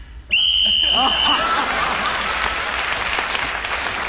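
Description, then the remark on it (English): A single loud, shrill whistle blast, blown to end a round of a radio panel game, lasts about a second, then gives way to sustained audience applause and crowd noise. “Right, so Clement Freud speaking as a whistle end, gained an extra point for doing so.”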